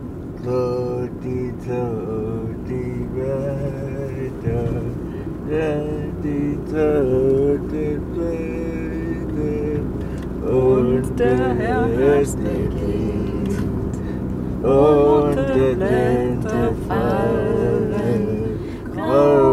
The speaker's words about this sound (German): Gefällt dir das, mit dem Auto so durch den Wald zu fahren? Ja. Durch die bunten Blätter?